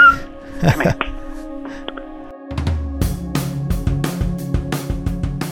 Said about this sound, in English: Sorry, my dog's just barking. What are you barking for, Dustin?